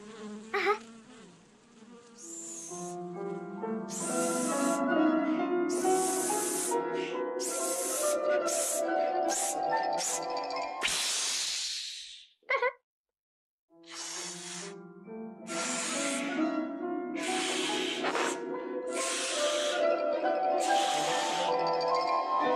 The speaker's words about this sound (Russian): Надувай шарик.